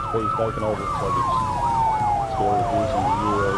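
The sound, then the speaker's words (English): Loud state police cruiser sirens wail together as they chase a crook's car, one sweeping slowly in pitch while another yelps in rapid rising-and-falling warbles, over a low rumble of engines. “Now he's also outnumbered, with the state police hot on his tail.”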